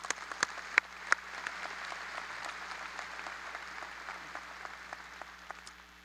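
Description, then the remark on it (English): A crowd at a UConn commencement ceremony breaks into steady applause for Dee Teitelbaum, many hands clapping in a dense, even wash, with a few louder individual claps standing out near the start before it settles into a sustained roar. “I think we all owe him a round of applause.”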